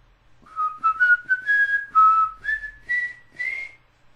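A person whistles a short, wavering tune of several rising and falling notes, fairly close and clear, with no talking over it.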